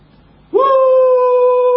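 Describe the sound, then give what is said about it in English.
A person imitates a wolf howl: a single loud, sustained voiced cry that swoops up briefly and then holds a steady high pitch, heard alone. “Some people tell me that they do. The wolf.”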